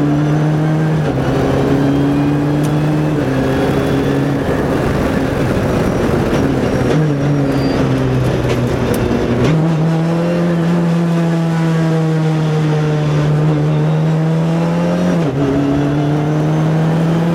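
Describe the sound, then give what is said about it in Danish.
A race car engine drones steadily and loudly for the whole stretch on Stuart Raceway, heading down the long straight, its pitch stepping up and down with gear changes as it accelerates and lifts off along the track. “Men han har altså en fantastisk følelse af racerbil alligevel. Nu skal vi så ned ad langsiden.”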